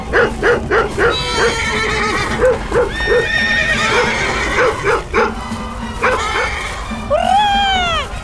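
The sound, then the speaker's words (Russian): Several horses, frightened by a barking dog, whinny loudly in long, wavering neighs, one after another, as they scatter in all directions, over a steady rhythmic clopping of hooves that runs through the first few seconds, busy. “Индейцы повскакивали, оставили свой ритуал и бросились догонять лошадей.”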